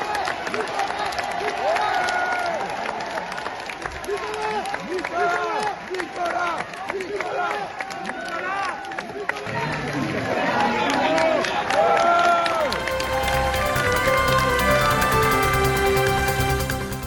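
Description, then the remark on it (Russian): A large crowd of supporters claps and cheers as a man leaves for prison in a luxury car, with many excited voices overlapping in a dense, continuous roar, before music rises and takes over near the end. “В тюрьму, куда его провожали красавица-жена, дети и внуки, он уехал в шикарном автомобиле под аплодисменты своих сторонников, которые сегодня же проводили в Париже митинги в его поддержку.”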